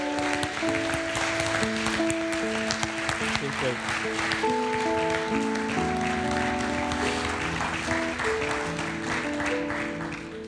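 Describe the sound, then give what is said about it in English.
A crowd applauds warmly for a person who has just been baptized: dense steady clapping lasting about ten seconds, with cheering voices and sustained musical tones running underneath before it begins to taper. “I think she deserves another hand because you have no idea how nervous she was.”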